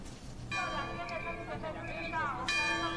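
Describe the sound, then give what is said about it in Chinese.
Church bells of the Catholic Wanjin Basilica in Wanjin village ring as a Marian procession sets out on the second Sunday of December, in overlapping, clear metallic strikes, one peal starting around the middle and another striking loudly near the end, their tones lingering over a faint background hum. “清脆的钟声响起，圣母圣教从万金圣母殿前出发”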